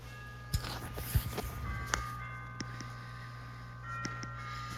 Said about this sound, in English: What is that? It's a clock. You have a clock? That plays does that?